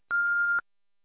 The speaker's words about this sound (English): Thank you for calling Old Town Jewelers. Sorry we can't get to the phone right now. Please leave a message after the tone and we'll get back to you as soon as possible.